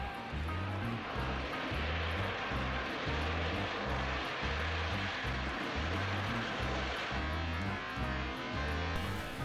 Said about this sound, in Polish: A teraz potężny Antonow An-124, do którego silnika wpadł ptak.